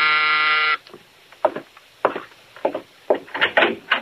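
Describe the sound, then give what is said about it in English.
A loud, harsh apartment door buzzer rings in one steady burst of under a second, then cuts off, followed by a few short bursts of voices. “Now Mike is in his apartment when the door buzzer sounds.”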